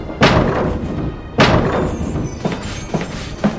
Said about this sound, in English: I'm running into the door.